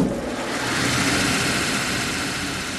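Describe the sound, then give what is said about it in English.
A grinder, used to sand sockets or braces to the right size, and a drill press run together, making a loud, steady mechanical whir with a low rumble underneath. The noise holds constant throughout, and no one speaks. “Same machinery, drill press, workbenches, grinder in order to sand the socket or the braces to the right size. It's loud, too.”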